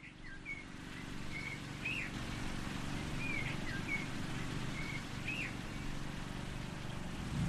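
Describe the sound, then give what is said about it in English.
Birds chirp and whistle in short, repeated phrases in a corner of the Bayou Commonwealth War Cemetery, over the steady low engine drone of a motor mower tending some 4,000 or more graves, running continuously throughout. No one speaks. “In this corner of the Bayou Commonwealth War Cemetery, you can hear birdsong, the sound of a motor mower, carefully tending some 4,000 or more graves.”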